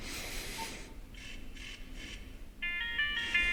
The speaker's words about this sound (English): And then we have a ringtone.